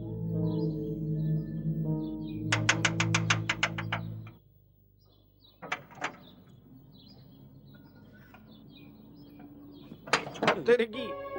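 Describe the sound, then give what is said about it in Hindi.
A door is shut midway through, with a couple of sharp clunks against a low background hum, preceded by bright chirpy tones and followed by more brief clatter. “अरे दरवाजा क्यों बंद कर रहे हो?”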